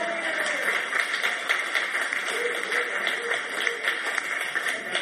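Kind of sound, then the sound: crowd, round of applause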